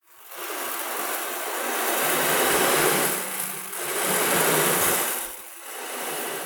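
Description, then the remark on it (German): One to two handfuls of rice grains poured onto a metal baking tray and moved slowly back and forth in front of a microphone make a dense, hissing rattle that rises and ebbs in slow surges, with no voices. “Schüttet den Reis nun auf euer Blech und bewegt es langsam vor dem Mikro hin und her.”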